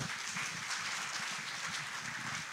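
An audience claps for a pastor, many hands together in a dense, steady patter of applause with no pauses, holding at an even level throughout without any voices over it.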